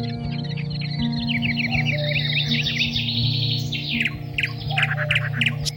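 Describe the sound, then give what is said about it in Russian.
Nightingales sing in dense, rapid trills and clicks, with a cuckoo calling and occasional lower calls, over a steady low hum in a forest on a summer evening. Moderately loud and continuous throughout. “Щелканье вездесущих соловьев, молитвенный плач кукушки, невыразимые цвета летнего вечера.”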